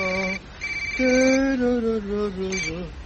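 A phone rings with a melodic electronic ringtone, several sustained tones stepping up and down in pitch over about three seconds, fairly loud with no voices; a call being placed to a student's father.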